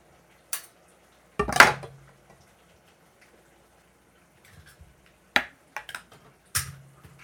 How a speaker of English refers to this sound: Here, let's see if I can get some bubbling sound for you. There you go. I'm going to turn the heat down a little bit because it's a little ferocious.